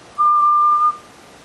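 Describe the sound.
A single steady, clear whistle tone made by sucking in air, held for under a second, fairly loud, with no talking around it.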